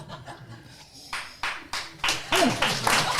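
A short burst of applause for drinking Köpi beer: several sharp, irregular claps that grow louder toward the end, with a brief low chuckle mixed in.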